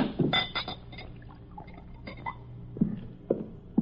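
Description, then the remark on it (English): A drink is poured into a glass inside a wagon used as a home, a short gurgling splash with a few light clinks of glass against glass, and no one speaking. “Pour this down.”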